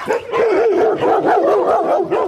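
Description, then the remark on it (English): Several big Swiss white shepherd dogs with thick white coats bark and yelp in a steady, overlapping chorus, their loud, wavering cries rising and falling in quick pulses with no one speaking. “Among them are a team of Swiss white shepherds. They're big, with a thick white coat.”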